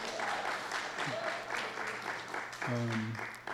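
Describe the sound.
Steady audience applause, a dense crackle of many hands clapping continuously, with a few voices calling out and murmuring beneath it.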